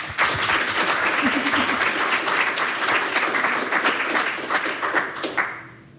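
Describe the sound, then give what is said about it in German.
A crowd applauds steadily for about five seconds before a reading from a book, a dense wash of many hands clapping at even loudness, then tapering off as the clapping fades out. “Meine Damen und Herren, voller Vorfreude bitte einen Applaus, bevor gelesen wird aus dem großartigen Buch, was eine Kiefer ist.”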